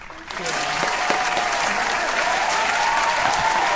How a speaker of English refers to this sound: Please, once again, give her a warm round of applause.